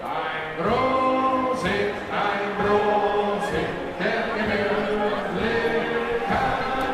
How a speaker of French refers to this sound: Musique bavaroise, toast collectif repris par la foule, la fête est bel et bien de retour sur la Wiesn, cet immense espace du cœur de Munich réservé à l'Oktoberfest.